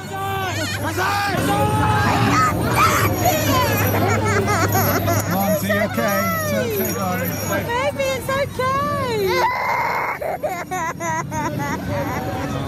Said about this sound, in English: There are crying children, including my own. That's a lot of screaming and terror for a Santa parade.